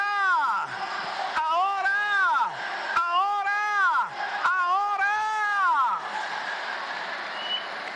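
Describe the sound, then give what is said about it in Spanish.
A large crowd erupts in loud, sustained shouting and cheering, with high whoops and voices rising and falling in overlapping waves for several seconds before settling into a steady roar. “Alguien grite.”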